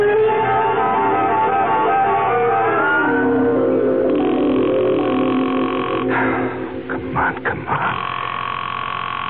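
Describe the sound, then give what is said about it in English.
A telephone rings with a steady, insistent electronic trill over a dense, murky background, fairly loud, with a few abrupt breaks near the end. “Answer the phone.”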